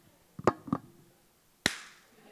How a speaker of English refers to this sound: you slap the sides. And I'm like, how stupid. We never broke it, but it always worked.